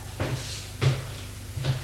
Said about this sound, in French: Nicolas ouvre la porte du dépôt des médicaments.